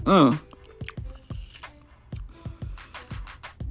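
crunching on chips

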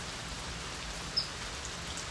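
rain falling

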